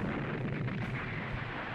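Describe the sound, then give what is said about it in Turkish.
Artillery cannon fire from French navy warships bombarding the shores of the strait rumbles in a dense, continuous barrage, booming blasts blurring together into a heavy low roar with a slightly sharper crack partway through. No one speaks. “Gemiler buraya yaklaşana kadar kıyıları top ateşine tuttular.”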